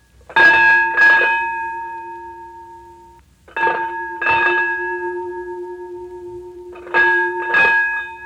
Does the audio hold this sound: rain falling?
no